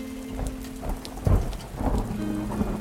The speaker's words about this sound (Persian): باران ترانه ای بکر و وحشی است، رپ رپه تبل های آفریقایی است، زلزله وار می لرزاند.